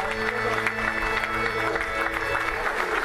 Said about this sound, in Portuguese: um momento de muita emoção, sinal de unidade do presbitério, momento acompanhado por muitos aplausos pela Assembleia, feliz por terem novos padres para o serviço da Igreja.